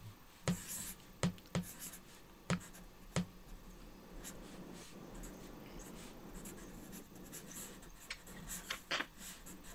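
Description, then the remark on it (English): A pen scratches and taps across paper, with several sharp strokes early on, then a steady soft scribbling that picks up again toward the end, as someone draws themselves in their current location during a 54-second drawing exercise. No one speaks. “So we're going to do drawing of ourselves in our current location.”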